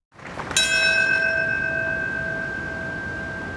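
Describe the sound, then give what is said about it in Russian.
A large bell is struck once and tolls, its bright metallic tone ringing out loudly and sustaining with a long, slowly fading hum. No voices are heard. A memorial bell in New York at the former World Trade Center site, on 11 September, the 12th anniversary of the 2001 attacks, as victims' names are read. “Под звуки колокола собравшиеся зачитали имена людей, которые погибли в обрушившихся башнях Всемирного торгового центра, а также в здании Пентагона и еще одном упавшем самолете.”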